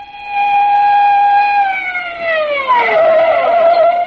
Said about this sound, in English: We arrived at the Marlin Club with the police siren wide open, made as much noise as possible.